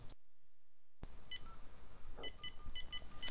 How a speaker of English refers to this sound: You will hear a series of beeps.